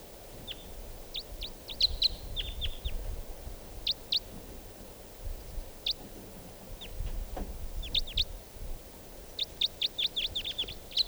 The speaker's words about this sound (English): I hear now some type 4 birds coming in. Here's that one lone bird. And a type 4 bird has just joined with it.